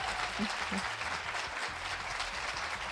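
A crowd applauds steadily, a dense wash of many hands clapping at once with no breaks, holding an even loudness throughout, with a few faint low voices murmuring underneath.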